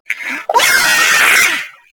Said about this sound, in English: She throws her cup onto the floor and begins screaming.